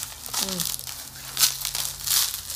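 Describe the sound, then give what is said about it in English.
Plastic wrapping crinkles and crackles as packaging is pulled off bottles of water, in irregular bursts of bright rustling, with a brief low vocal sound early on. “Very well wrapped. Very well protected, these bottles of water.”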